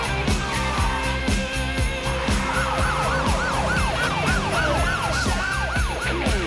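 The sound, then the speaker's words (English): Police sirens wail in repeating rising-and-falling sweeps as police cars leave the station, over a dense rumble of engines and traffic, loud and continuous throughout, with no talking. “Police cars leave the station.”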